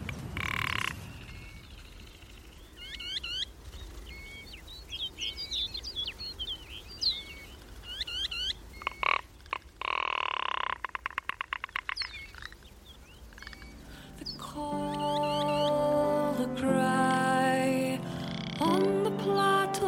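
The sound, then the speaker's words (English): Ptarmigan on a mountain plateau give repeated croaking, rattling calls over a steady outdoor background; toward the end, sustained layered tones rise beneath further bursts of calling. “First up, here's a bird from the plateau, the ptarmigan.”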